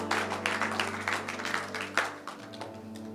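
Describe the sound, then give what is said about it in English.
A church audience claps for the Lord during a morning service in a dense, steady burst of applause over a sustained low organ-like hum, the clapping thinning out and fading toward the end. “Come on, give the Lord a clap offering this morning.”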